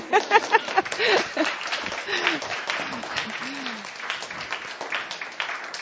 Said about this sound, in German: Damit bin ich am Ende meines Vortrags. Ganz herzlichen Dank für die Aufmerksamkeit. Sie dürfen gerne schnell klatschen.